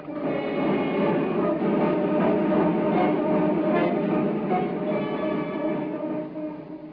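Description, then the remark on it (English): A train rumbles steadily along the rails, a loud continuous roar with a metallic whine running through it, holding even for several seconds before easing slightly at the end. No one speaks. “Traveling, same train as Fogg and Parker.”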